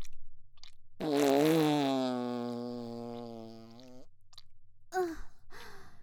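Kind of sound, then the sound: human body sound, fart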